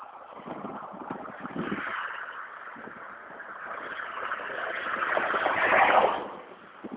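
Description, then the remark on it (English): Steady traffic noise from the road beside 202 on a Saturday morning, a broad whooshing rumble of cars going by, swelling louder as one vehicle passes near the end before fading back down. No one speaks. “This is the unfortunate part about talking when I start out, is that I've got this honk of road beside 202. And even though it's a Saturday morning, I still have all these cars going by.”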